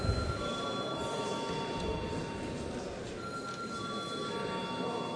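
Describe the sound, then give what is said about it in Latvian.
The bell of the Saeima, the Latvian parliament, rings steadily before a vote on appointing a Liepāja court judge, a continuous metallic buzzing tone with a rough hum beneath it, holding at an even level for about five seconds with no one speaking. “Lūdzu zvanu.”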